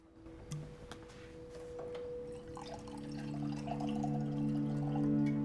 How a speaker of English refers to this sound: She turns on a light, opens the fridge, and grabs a bottle of white wine. She reaches into a cupboard for a glass and fills it halfway.